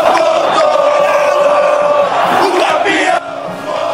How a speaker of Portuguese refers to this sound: você tá ouvindo a torcida do São Paulo? Tá empolgada a torcida tricolor.